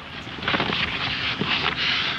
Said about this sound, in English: Sounds like some very intense shuffling to me.